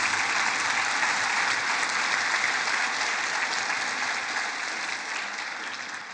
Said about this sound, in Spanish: El día de hoy estamos celebrando a las mamás. ¿Hay mamás acá? Sí. Danles un aplauso a las mamás que están por acá con nosotros, por favor.